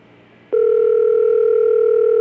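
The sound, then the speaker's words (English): A telephone ringback tone heard down the line: after a moment of low hiss, a loud, steady electronic tone switches on abruptly and holds unbroken to the end. “Answer the phone.”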